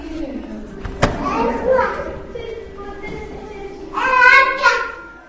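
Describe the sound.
Toddlers at an exhibition of Miller's artwork, featuring the Mole, chatter and squeal as they run from framed picture to picture, with a sharp thump near the start and a burst of excited high voices toward the end, over a steady background hum.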